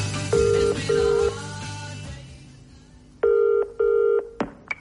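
A telephone rings in the classic double-burst pattern, two pairs of electronic trills: the first pair softer over a low hum, the second louder and clearer, ending with a sharp click.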